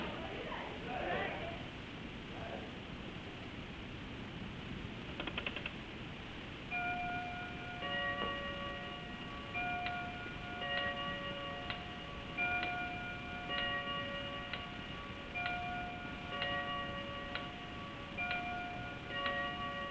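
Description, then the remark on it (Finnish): A clock starts striking partway through, its bright, ringing chimes repeating steadily one after another over a low, constant background hum, with a faint tick-like click just before the strikes begin. “Tuo riivattu kellohan pauhaa vähän päästä, kun tuomio pasuu.”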